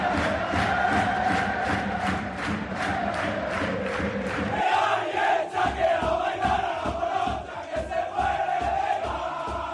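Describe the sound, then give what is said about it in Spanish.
A loud group of Extremadura football fans cheers and chants in the Extremadura dressing room after a Copa del Rey win over Unión Deportiva Las Palmas, with steady rhythmic clapping or stomping driving the noise throughout, voices blending into a continuous, celebratory roar. “El sonido de la afición, el sonido del vestuario del Extremadura en una noche inolvidable.”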